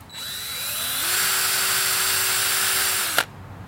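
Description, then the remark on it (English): A power drill whirs, its motor climbing in pitch, then grinds steadily into a hard red oak log, drilling holes, for about two seconds before stopping abruptly with a sharp clack. No voices are heard. “This log is really hard. Yeah. I swear I know how to use a drill.”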